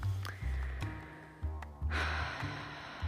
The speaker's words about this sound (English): Breathing and coming back to center.